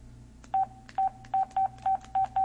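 A telephone number is dialed on a touch-tone keypad: seven short, steady beeps in quick succession, with slightly uneven gaps, over a low background hum.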